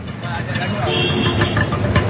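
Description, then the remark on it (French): Busy street traffic in Bhavnagar during the quietest hour of the day: a steady rumble of idling and revving engines, 'tchouk-tchouk' motors and horns fills the scene, with a brief horn-like tone and indistinct voices mixed into the continuous din. “Ça, c'est leur calme, hein, les sons qu'on entend, là, les klaxons, les tchouk-tchouk, les moteurs, tout le bazar.”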